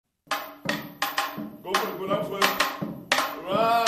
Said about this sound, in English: Half a dozen teenagers sit in a computer lab in a building next door to San Francisco's juvenile court. Each holds a pair of bamboo sticks. Their heads bow and brows furrow as they clap out the jambalasi, a Caribbean carnival rhythm